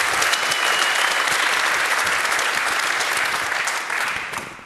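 An audience claps in a dense, steady burst of applause lasting a few seconds, fairly loud throughout, then thins out and fades toward the end. No one speaks over it.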